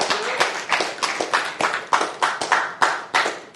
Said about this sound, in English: You in this room do just very that. But you can clap for that. Praise God for it.